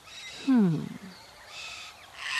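A red-tailed black cockatoo in a tree in Australia lets out one loud, harsh screech lasting about half a second, its rough harmonic cry bending in pitch, followed by quiet hissy outdoor background noise.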